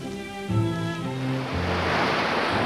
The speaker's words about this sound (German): Meeresrauschen, herrlich. Für viele ist das Meer ein Sehnsuchtsort.